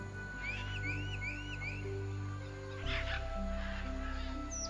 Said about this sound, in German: Und hier ist auch ein ganz bunter, schöner Vogel. Der kann auch mit dir sprechen.